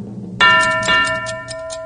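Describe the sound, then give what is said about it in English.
A clock starts ticking abruptly as the timer for a world-record banana-eating attempt, with steady, evenly spaced ticks over a sustained ringing tone. It's fairly loud, with no one speaking. “As soon as you hear the clock begin, you begin.”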